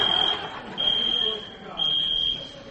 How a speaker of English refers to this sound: One of the kids got a hold of the fire alarm.